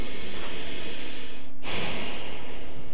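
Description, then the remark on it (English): Audible breathing during a breathing exercise, breathing a little harder to make noise: a long, breathy exhale, a brief pause, then a loud, airy inhale through the nose or mouth, with no talking. “And then breathe a little harder so as to make a bit of a noise as you breathe in and out.”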